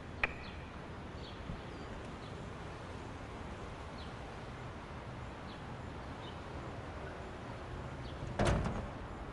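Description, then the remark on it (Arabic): A house door is opened near the end, a brief rattling clunk that stands out over a steady, hissy background with faint chirps. No one speaks. “ممكن بعد إذنك تجي وتفتحي الباب شوي؟”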